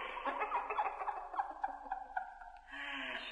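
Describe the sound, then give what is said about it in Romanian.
A rapid, warbling gobble of turkey-like bird calls rattles along in quick bursts for a few seconds, fairly loud, trailing into a softer hiss near the end. No speech. “Pedeapsa ce te așteaptă e aceasta. Să te prefaci în pasăre.”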